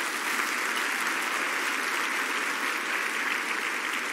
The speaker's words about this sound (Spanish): Den un fuerte aplauso a Jesús.